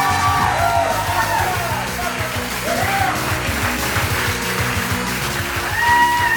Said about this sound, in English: Keep clapping. Hello. Keep clapping. There you go.